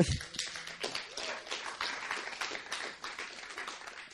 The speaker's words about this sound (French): Je précise d'un point de vue purement pratique, je ne veux pas couper les applaudissements quand même.